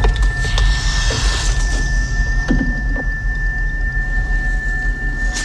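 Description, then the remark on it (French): A heart monitor's flatline tone: one unbroken, high-pitched beep holding steady for the whole clip over a dense, rumbling background with a few faint swooping sounds. “Tracé plat.”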